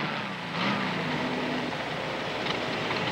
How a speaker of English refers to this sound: You hear this wonderful sound of the Volkswagen coming in. And it turns and it goes away.